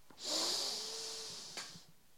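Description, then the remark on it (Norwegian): A single long, airy inhale through the nose during a guided breathing exercise, a hissy rush of breath that swells quickly and holds steady for about a second and a half before tapering off. No talking. “Skal vi puste en gang til? Puste godt. Nesa.”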